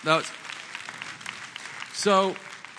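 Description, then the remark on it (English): An audience claps steadily for a few seconds, a dense wash of many hands at moderate volume, with brief vocal exclamations cutting in at the start and again near the end. “So that's, so what, you can clap, it's okay.”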